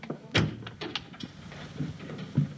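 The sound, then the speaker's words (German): A door being opened: a sharp latch click and handle rattle, a few soft knocks, then two muffled low thuds as it swings and settles. No one speaks. It is the door of a nursing sisterhood building, bearing a sign for the nursing school's director, opened as two students go in. “Also gehen wir mal rein und schauen, ob wir jemanden finden, der uns weiterhelfen kann.”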